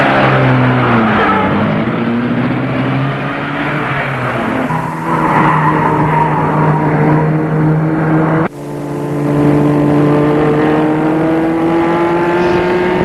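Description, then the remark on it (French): A chauffeur-driven car's engine revs loudly and accelerates, its pitch climbing steadily through the gears, with a brief break before another rising surge as the car speeds away up toward the heights of the town. No one speaks. “La voiture file et va sur les hauteurs de la ville.”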